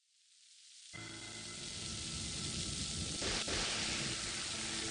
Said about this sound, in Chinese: 夜晚电闪雷鸣，漆黑的天空划过一道又一道刺眼的闪电，倾盆大雨哗哗下着，人们避之不及，纷纷躲了起来。街道空荡荡，只有震耳欲聋的雷雨声和无尽的黑暗。